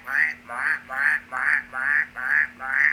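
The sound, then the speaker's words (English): Many frogs croaking at night after a storm, in hot tropical air, in a steady, rhythmic chorus, with about seven evenly spaced, moderately loud calls in three seconds and a faint constant hum beneath them. No one speaks. “And the only thing you could hear was frogs.”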